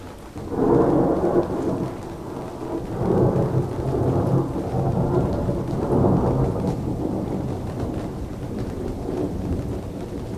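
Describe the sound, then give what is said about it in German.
Heavy rain pours down in torrents at a harbour towards the Elbe estuary while deep thunder rolls and rumbles through the whole stretch, loud, with no voices. “Der Regen plattert und prasselt in Strömen.”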